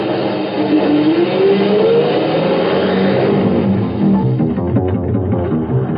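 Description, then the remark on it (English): A loud truck engine roars as the truck speeds along, its pitch climbing as it revs up early on, then holding a steady, rumbling drive with no voices. “Hey, that's one of my trucks up ahead. Going awful fast.”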